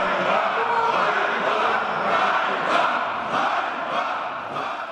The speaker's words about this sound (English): Ukrainian opposition legislators shouting shame, shame.